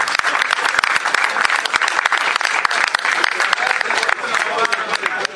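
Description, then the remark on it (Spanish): An audience applauds in a dense, steady wash of clapping that stays loud for about five seconds, with individual sharp claps popping out of the crackling mass. “Otro aplauso para ellos.”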